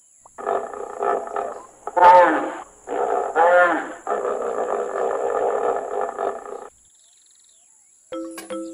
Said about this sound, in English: The hippopotamus, or hippo for short, spends so much time in the water, it practically lives there. Hippos can hold their breath for up to 5 minutes while underwater, sometimes even longer. They can even sleep underwater.